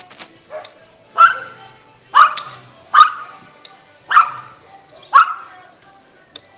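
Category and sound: animal, small dog barking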